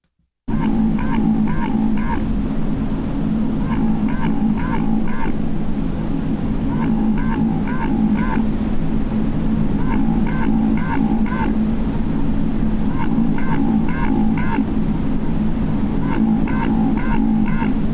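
Rapid bursts of low, hollow quacking pulses repeat in regular clusters of four or five over a constant deep underwater rumble, with no voices present. This is the bioduck, a quacking-like underwater ocean sound.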